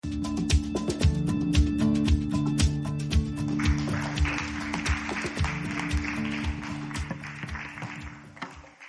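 Crowd applause at Last Adam Tabernacle church, for two people the audience helped through school, swells from midway and continues steadily, layered over sustained keyboard chords and a regular, even beat of sharp taps.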